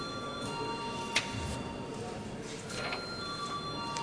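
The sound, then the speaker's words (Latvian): A parliament chamber bell rings steadily for several seconds, calling deputies to vote on a draft decision, holding bright, even tones throughout, with one sharp click partway through and a low murmur of the chamber underneath. “Lūdzu, deputāts balsot par lēmuma projektu. Lūdzu, zvanu.”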